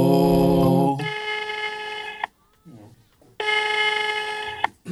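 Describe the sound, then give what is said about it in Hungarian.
An outgoing phone call rings without being answered: two long, steady electronic ring tones separated by a silent gap, with faint murmuring in between. “Hallhatják önök is, hogy próbáljuk Fekete Lacit felhívni, de valamiért, hát még lehet, hogy alszik, vagy nem tudom, de nem veszi fel a telefon”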